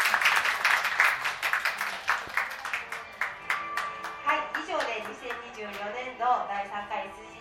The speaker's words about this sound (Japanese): 受賞された皆様本当におめでとうございます。皆様拍手をお願いします。